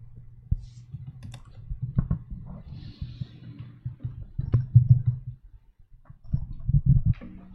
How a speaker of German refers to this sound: Für den Moment gibt es zumindest im Raum hier keine Fragen, aber da wird nochmal getippt in der Online-Videokonferenz. Mal schauen.